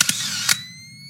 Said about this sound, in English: So he's like taking pictures and you can hear like the flash on his camera, like charging every time he takes a picture and it like lights up part of the apartment.